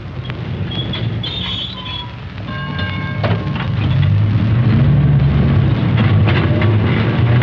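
tram running on rails

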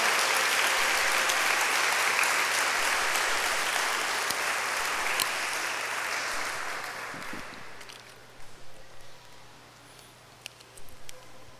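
audience applause

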